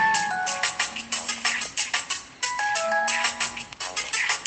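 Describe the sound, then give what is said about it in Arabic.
A mobile phone ringtone plays a bright, repeating electronic melody in two similar phrases, fairly loud, with no talking over it. “اجعله صامتا، من عنده جوال اتركه على الصامت.”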